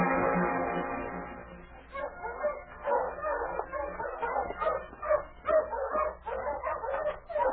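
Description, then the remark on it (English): Sled dogs of a dog team whine with a drawn-out, whimpering cry, then break into a steady flurry of barks and yips, several dogs fairly loud. “My dog team's all ready.”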